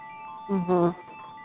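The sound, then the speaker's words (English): A Skype phone ringtone: two short, bright electronic notes in quick succession, a brief melodic chime rising over a faint, steady tonal hum. “That's my Skype phone. Oh, I love the ringer on it.”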